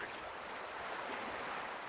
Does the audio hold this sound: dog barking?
no